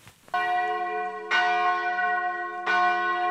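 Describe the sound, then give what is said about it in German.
A church bell tolls slowly for the funeral of Andrea Papi in the small municipality of Caldesse in Trentino, northern Italy: three rich ringing strikes about 1.2 seconds apart, each overlapping the lingering hum of the last, with no voices present. “Die Glocken läuten für die Beerdigung von Andrea Papi.”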